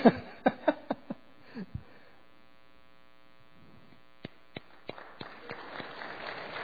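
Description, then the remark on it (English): A handful of scattered claps, then a lull filled with steady electrical hum, before sparse clapping returns and builds into light audience applause by the end, given after a speaker recites a Bible verse. “Where's the applause?”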